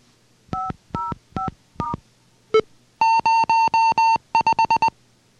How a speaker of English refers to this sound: The low beep means that output 5 is currently low.